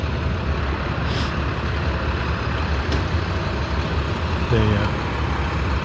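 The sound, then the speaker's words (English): Trucks rumble past on a road in the morning in a steady, loud wash of engine and tire noise, with a short tonal whine rising near the end. “more trucks.”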